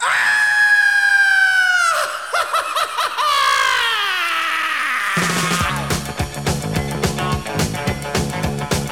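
A loud, high-pitched scream slides downward, broken by gasping, laugh-like bursts and a falling wail, before a pounding rhythmic beat takes over for the rest.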